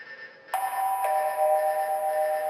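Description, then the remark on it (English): A two-note electronic station alarm chime, a Blue Learner Pilot Alarm, sounds alone, with a second bright tone striking about half a second after the first, both ringing on in a steady, sustained shimmer. “This is a Blue Learner Pilot Alarm.”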